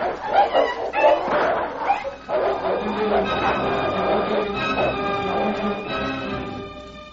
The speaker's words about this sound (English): Mary, listen, that's a dog's bark. Can you see? That last one. It is a dog. He's fighting at Tara's side. He's helping him. Oh, Tommy, it's King.